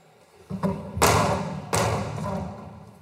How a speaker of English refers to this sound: And then he took a hammer. He started to strike the mural with the hammer, mimicking the sounds of gunshots.